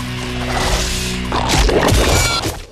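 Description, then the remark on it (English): Two of Scorpion's metal whips with crocodile-head tips lash out and clatter as they wrap around pillars on a bridge, with sharp metallic ringing over a low rumble. The sound is loud and continuous, and no one speaks. “As Sub-Zero steps onto the ice bridge, two metallic whips with crocodile head tips wrap around some pillars on the bridge.”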